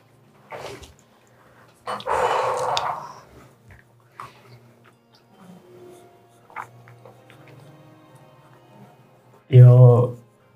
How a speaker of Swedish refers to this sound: Låter som en valp. Mm. Jag har aldrig hört om en valp som lever under jord.